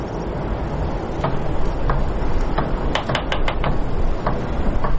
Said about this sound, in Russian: Что-то стукает. Машинка.